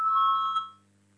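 A parliament voting bell, rung to call a vote on the legal bureau's second proposal for a bill, sounds as one steady electronic tone, bright and mid-high in pitch, holding for under a second before cutting off, leaving only a low hum.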